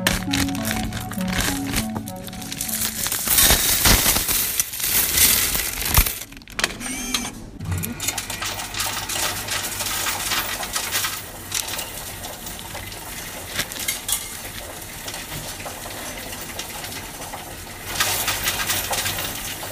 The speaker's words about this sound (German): Deswegen sammle ich das in einem Bierhumpen und bringe den, wenn er voll ist, zur Bank und leere dann das Geld in eine Münzzählmaschine rein, die mir das Ganze dann zählt und auf mein Konto überweist.